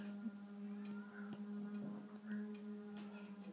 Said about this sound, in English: I think they are hoovering, but it sounds like a really loud one.